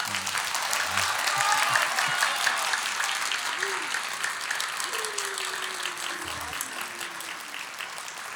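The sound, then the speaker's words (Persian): A crowd at a recital by five poets applauds steadily for several seconds, a dense wash of clapping that stays fairly even in loudness, with faint murmurs and a few brief voices rising underneath. “اینجوری تشویق کنید، ما 5 تا شاعر تا صبح دست از سر این میکروفونه بر نمی‌داریم.”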